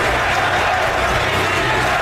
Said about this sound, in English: You hear the crowd is chanting to the Sixers.